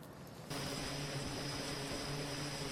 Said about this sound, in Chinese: 从杜鲁门号航空母舰的甲板上起飞，美国海军的飞机开始对叙利亚的伊斯兰国武装发动空袭。